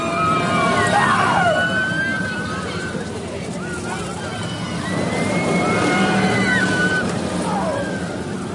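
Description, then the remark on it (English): A man, a Marine riding the California Screaming ride, screams twice, each cry a wavering, rising-and-falling yell, over a constant loud rumbling roar, with a few seconds of quieter churning noise between the two screams. “I heard what sounded like a man screaming twice.”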